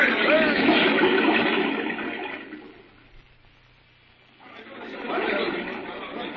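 A loud, steady roar of rushing water like a waterfall, dipping to a quieter hiss midway before surging back up to full strength.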